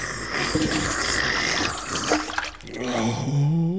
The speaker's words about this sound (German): Otto, bitte einen Eimer Wasser. Hier, Benjamin, trink mal schön. Das ist gut für dich.